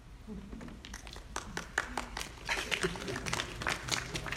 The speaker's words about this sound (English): Grandma started that applause, just so you know.